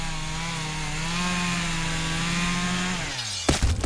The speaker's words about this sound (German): Heutzutage könnte es natürlich auch irgendein Irrer mit der Kettensäge sein.